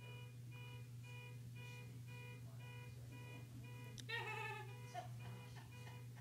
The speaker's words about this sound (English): Herb. Herb set off his alarm. Herb set off his car alarm. It's magic. Hallelujah. It's alarming.